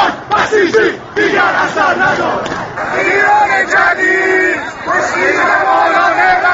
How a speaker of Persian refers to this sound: فیلم دیگری جمعیت انبوهی از تظاهر کنندگان را در خیابانی دیگر نشان می دهد که آرام راه پیمایی می کنند و شعار می دهند.